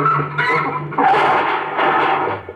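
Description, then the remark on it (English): A car swerves with a loud rush of engine and squealing tires, a dense, chaotic burst lasting a couple of seconds as it narrowly misses something. “Hey, watch out, that car.”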